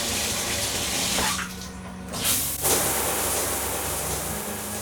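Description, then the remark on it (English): Shower water runs in a steady hiss, briefly thinning and then surging back as the spray shifts; no voices are heard. “I shoved the blankets off of me before heading for a quick shower.”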